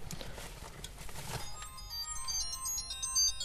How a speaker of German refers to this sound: klingelt. Ah, sein Handy ist gerade...